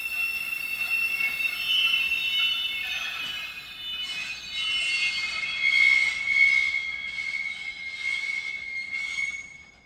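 A train rolls along the rails with a sustained high metallic squeal from the wheels, steady and fairly loud for the whole stretch, swelling and fading slightly as it moves past; no voices.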